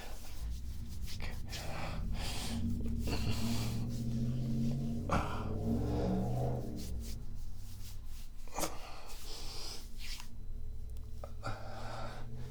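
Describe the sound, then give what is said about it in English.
A car engine roars steadily, its low rumbling drone rising and shifting in pitch as it accelerates, with bursts of rushing noise layered over it and no talking. “Because this car is a shit box, that's why.”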